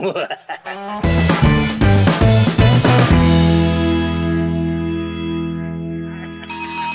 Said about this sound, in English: Yay! The bell is back. Yes, the bell po is back. Welcome bell po sa Laughler Talk.